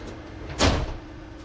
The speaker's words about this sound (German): Výstup a nástup, dveře se zavírají.